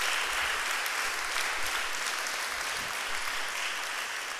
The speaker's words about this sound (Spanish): Un aplauso al Rey. Un aplauso al Rey.